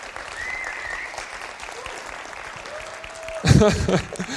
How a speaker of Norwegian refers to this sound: Jeg forventer egentlig litt applaus nå. Kan dere klappe?